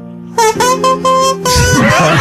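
A plastic toy trumpet blares a short melody of several held, buzzy notes, loud and close over faint background music, the last note turning rough and noisy.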